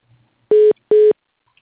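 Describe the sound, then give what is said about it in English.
Two identical electronic beeps on a telephone line after a call was disconnected and reconnected, steady mid-pitched tones each lasting about a fifth of a second, separated by a short gap, loud and clear with near silence around them. “Yeah, but now I got some kind of beeping.”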